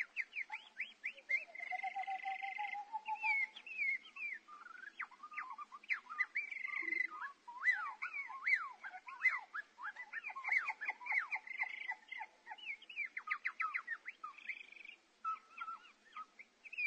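A busy chorus of birds: overlapping whistles, rapid chirps and fluttering trills pour out continuously at a fairly steady loudness, with no voices, like an old recording of many singers at once.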